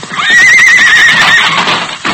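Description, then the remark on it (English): A loud whinny from the horse Silver, sent to break down a door: a wavering high-pitched neigh lasting about a second and a half, then a brief thud as it trails off. “All right, Silver. Time for you to go to work.”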